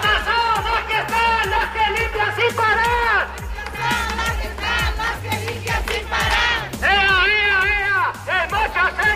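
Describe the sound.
A loud crowd of protesting hospital cleaning workers from the Girona counties shouts and chants together, voices rising and falling in rhythmic bursts, with repeated low drum-like thumps pulsing steadily beneath the din throughout.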